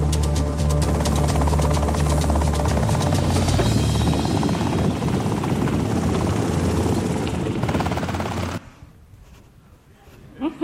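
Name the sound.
helicopter flying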